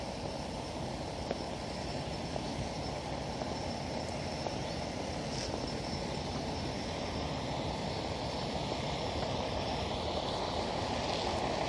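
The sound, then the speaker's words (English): A loud, steady engine rumble from an idling water truck at a fire hydrant in front of a house, with its running pump adding a constant mechanical drone and a thin high whine, unbroken for the whole stretch and with no voices. “Not only is the truck loud, but the pump that they have on it is loud.”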